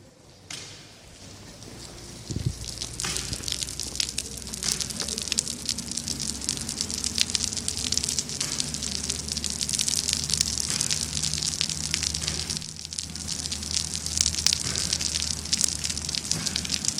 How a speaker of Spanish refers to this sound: ¿Qué es el sonido de la lluvia en la granja de Pozo Negro? Hablando de agricultura, de ganadería y de pesca, sobre todo para el agricultor y el ganadero, un sonido que levanta el alma para la gente que vive directamente del sector.